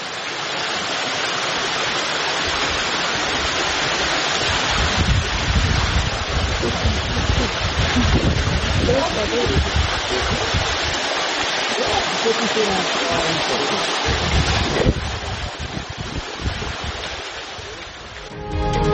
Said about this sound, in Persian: آبشار زیبای گورگتان اگر اشتباه نکنم در منطقه گردشگری شهرستان نیکشهر سیستان و بلوچستان قرار داره. کاربری فیلمی از این آبشار رو در شبکه‌های اجتماعی منتشر کرده که دیدنش در این روزهای گرم سال خالی از لطف نیست. آبشار زیبای گورگتان در منطقه گردشگری گرگان.